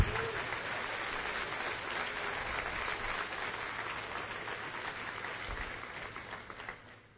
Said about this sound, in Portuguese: Pode aplaudir, gente. Aplaude a Deus.